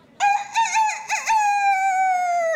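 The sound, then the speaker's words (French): A rooster crows once, loud, a long cock-a-doodle-doo with a wavering middle and a sustained, slowly falling final note, with no talking over it. “Il gonfle ses plumes, écrase les autres poulets et pousse un superbe...”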